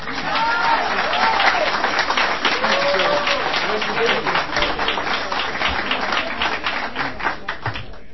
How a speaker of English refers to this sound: All right, I'm now going to introduce the speaker, and please give him an applause.